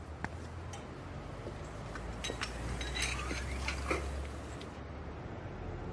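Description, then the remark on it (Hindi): Dishes and cutlery clink irregularly as they are washed, with a scattering of sharp metallic and ceramic knocks over a steady rushing background. No one speaks. “मैं आपके लिए चाय निकालता हूँ, ये बर्तन धो लूं जरा पहले।”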